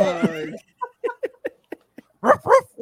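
A dog whines in a high, wavering tone, then gives a quick run of short, soft yips before two louder, sharper barks. Nobody talks over it.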